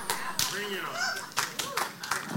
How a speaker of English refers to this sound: And there was a smattering of claps. I'm sure the throne room sounds like that.